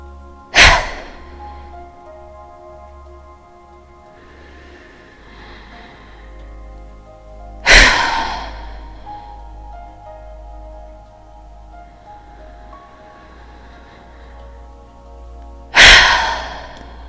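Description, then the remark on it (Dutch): Three cycles of slow, deep breaths drawn in through the mouth, each followed by a short, forceful whooshing exhale, evenly spaced, with no talking. “Adem nu diep in door je mond. En blaas met een korte en krachtige zucht alles uit.”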